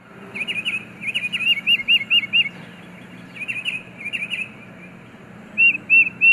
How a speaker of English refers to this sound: Alarm calls can even trigger a response from non-avian listeners. The tufted titmouse, for example, is a songbird whose anti-raptor warning cries send squirrels and chipmunks running.